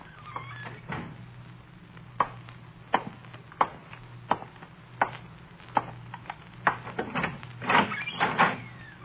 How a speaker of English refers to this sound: He's trying to unlock the door.